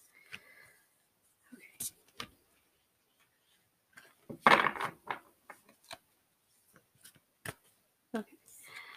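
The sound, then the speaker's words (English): Shuffling of a deck of cards: a short, dense riffling burst midway, surrounded by scattered crisp snaps and taps of cards being handled. “Did I just shuffle weird or something?”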